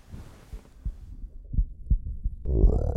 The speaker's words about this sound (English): There we go. How's that? Now you can really hear it growling. Hear how loud my tummy gets when it's hungry?